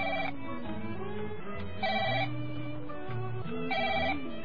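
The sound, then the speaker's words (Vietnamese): A phone ringtone plays a repeating melodic pattern, with three bright bursts of ringing at regular intervals over a steady tune, loud with no talking. “Xin tăng có điện thoại mà gọi.”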